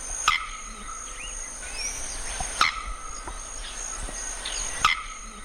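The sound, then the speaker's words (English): A male bearded bellbird, a South American species, gives three sharp, loud chirping calls at a steady, metronome-like pace, about two seconds apart, over a constant high-pitched buzz of insects. “But that metronome-like chirping is just one of his songs.”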